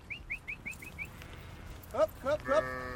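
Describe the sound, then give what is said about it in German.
Several sheep of a shepherd's flock bleat in quick succession near the end, their calls overlapping, after a run of short, high bird chirps at the start. “Ohne mich ist die Herde nicht wirklich handlungsfähig.”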